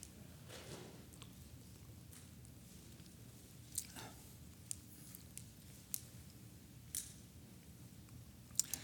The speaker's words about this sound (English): Drink of water here.